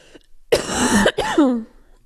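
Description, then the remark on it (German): A loud cough in two bursts, harsh and breathy with a raspy, throaty tail, heard alone without any talking. “Oh, ich muss einmal husten, wo ich.”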